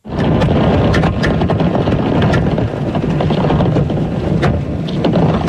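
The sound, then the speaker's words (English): About 2,000 golf balls rolling down a ski slope make a loud, steady roaring rumble, dotted with countless sharp clicks and clacks as they knock together, continuous for the whole stretch. “Those are 2,000 golf balls. Coming down a hill. Coming down a ski slope.”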